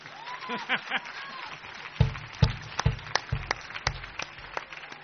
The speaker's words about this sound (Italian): Applauso allora.